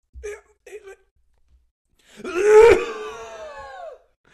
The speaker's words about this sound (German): Dass du laut gehustet hast, merkt man daran, dass sowohl dein Pegel als auch mein Pegel maximal ausgeschlagen ist. Das sind auf jeden Fall jetzt alle wach.